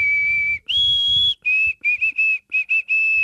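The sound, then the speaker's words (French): A person whistles an imitation of a small woodpecker's morning song: two long, steady high notes, then a quick run of short chirped notes in an uneven rhythm, clear with no talking. “Non, c'est l'oiseau le matin, là, le petit pic-bois qui chante quand je”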